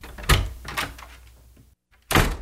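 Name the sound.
office door opening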